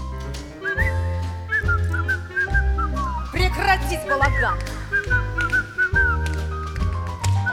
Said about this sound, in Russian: не свисти, денег не будет!